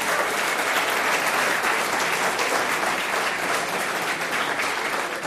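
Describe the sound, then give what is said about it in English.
A large audience gives a standing ovation at the close of a talk, clapping in a loud, dense, unbroken wash of applause that holds steady for the whole stretch, with no voices rising above it. “So, well, now they're giving a standing ovation.”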